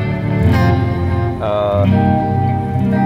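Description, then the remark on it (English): Electric guitar strummed through a reverb patch that also adds a little delay and includes a Digitech Whammy, loud, sustained chords washing into one another with a lingering ambient tail as the harmony shifts a few times; no voices. “Then my reverb patch has both my reverb”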